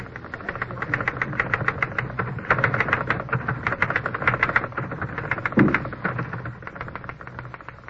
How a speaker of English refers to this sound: The race between the tapping of the typewriter keys and the ticking of the red second hand on the clock began.